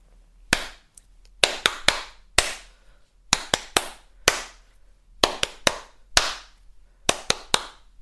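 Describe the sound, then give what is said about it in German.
Hands clap out a patterned rhythm, demonstrating one of several rhythms to clap: sharp bright claps arriving in short groups of two and three with brief pauses between, repeated several times with no talking. “Ich mache jetzt einfach mal ein paar verschiedene Rhythmen vor und du kannst dann noch für die entscheiden oder auswählen, was du gern klatschen würdest.”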